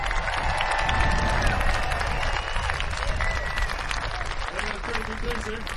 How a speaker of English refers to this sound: Applaud now.